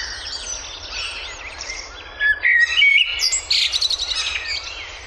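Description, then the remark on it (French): Several small birds sing and chirp together in a garden in a rich, overlapping chorus of high whistles and trills, some bright, over a low steady background rumble. “apprenez à reconnaître les oiseaux dans votre jardin, dans un parc public ou tout simplement depuis votre balcon.”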